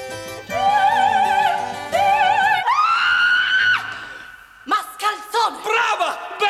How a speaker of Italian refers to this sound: finalmente il vostro urlo era perfetto. Così si grida, così!